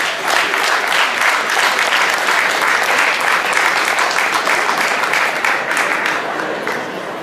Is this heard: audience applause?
yes